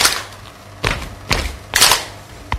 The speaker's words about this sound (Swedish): Okej, så. Stamp, stamp, klapp. Stamp, stamp, klapp. Vi bara testa tillsammans en gång.